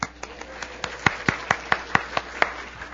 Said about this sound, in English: Listen, we're here this morning because Jesus is awesome. Right? Yeah. Who was clapping? Good for you,